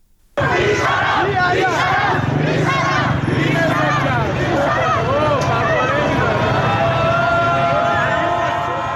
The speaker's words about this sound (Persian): این واکنش تجمع کنندگان بود به مامورین نیروی انتظامی که قصد داشتن با آپاش اونها را متفرق بکنن.